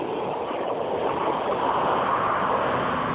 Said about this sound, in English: There's a fucking truck here, hang on.